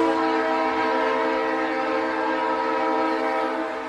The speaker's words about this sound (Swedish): Och då kommer ju tåget.